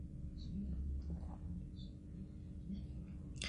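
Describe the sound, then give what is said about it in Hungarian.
A low, continuous rumble of thunder from a windy storm, following a huge lightning flash, rolls on steadily for several seconds, deep and fairly quiet, with faint scattered sounds above it. “Megrecsent az ég, ám előtte majdnem 2 hasadt az égbolt, akkorát villámlott.”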